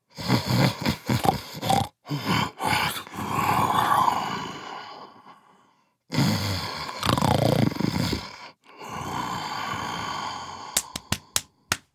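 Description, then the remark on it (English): A sleeping tiger snores in deep, rumbling, growly breaths, a few long rasping snores separated by short pauses, loud, with a handful of sharp clicks near the end. “Tiger snores.”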